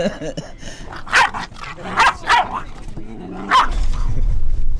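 A dog lets out four loud, sharp barks at uneven intervals over a low background rumble.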